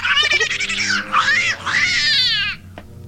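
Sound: cat yowling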